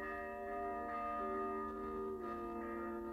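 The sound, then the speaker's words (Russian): A church bell rings an alarm, its strikes overlapping into a sustained, resonant metallic hum that fills the short stretch with no voices present. “Потом услышала колокольный набат. То ли война, то ли пожар.”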